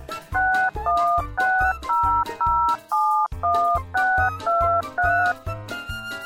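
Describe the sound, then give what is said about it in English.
Touch-tone keypad beeps as a phone number is dialed: about a dozen quick, loud two-tone presses in a steady rhythm with one brief pause midway, with no voices. “I'll just beep this in the phone.”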